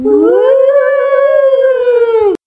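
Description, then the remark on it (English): First, second and third class schoolchildren imitate a ghostly wail for a Halloween soundscape: a single long, loud, moaning "oooh" that swoops up and then holds steady for about two seconds before cutting off abruptly, with no other sounds. “Ghosts booming through the air.”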